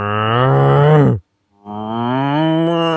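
Two long, loud cow moos, each a drawn-out lowing call with a short silent gap between them, and no talking.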